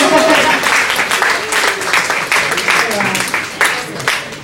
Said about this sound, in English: So girls, give the guys a clap anyway for being here.